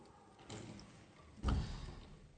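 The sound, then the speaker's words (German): A door closes with a solid thump about halfway through, preceded by softer shuffling and rattling as it swings shut, with no one talking. “Er sagt, könnt ihr die Tür zumachen bitte, Barakallahu fikum.”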